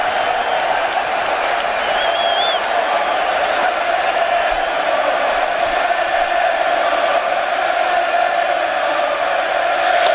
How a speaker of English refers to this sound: Well, this standing room only crowd trying to get under Johnny Cueto's skin, and they might be.